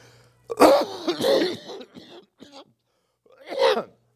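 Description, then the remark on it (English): A person with a cough lingering from an illness over a month earlier, full of phlegm, coughs and clears their throat several times: a harsh burst, a raspy rumbling clearing, a couple of softer hacks, then one more cough after a short pause. “I apologize for my cough.”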